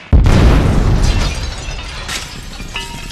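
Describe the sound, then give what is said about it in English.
Grenades thrown inside a church go off in one sudden, loud blast, then a heavy rumble that slowly fades under scattered crackles and debris-like clatter, with a faint ringing tone near the end. “Throw them grenades, man!”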